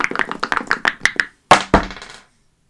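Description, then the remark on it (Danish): Dice are shaken in dice cups, one die in each cup, to decide who goes first: a rapid series of small hard clicks and rattles ends in a pause, then two sharp thuds as the dice land on a table, showing a six and a two, quickly fading. “Så skal vi slå. Vi har fået et raflebær hver. Ja. Og en terning.”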